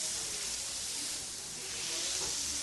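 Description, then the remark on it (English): Steady sizzling of smash burger beef patties made from balls of ground beef on a hot grill at a burger place in Pasadena, a dense crackling hiss that holds evenly for a few seconds with no talking. “Hear the sizzle?”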